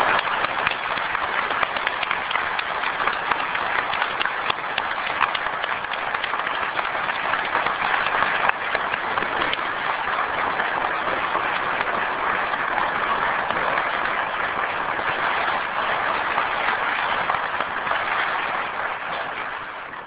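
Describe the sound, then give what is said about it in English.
Steady applause from a courtroom audience for counsel after an oral argument, a dense patter of many hands clapping at an even level for about twenty seconds before tapering slightly at the end, with no voices. “And I think that the counsel should get a round of applause for doing this.”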